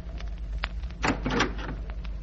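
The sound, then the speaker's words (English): A door is opened to answer a caller: a short knock-like click, then a burst of rattling and scraping around the handle and frame, over a steady low hum. “I'll answer the door.”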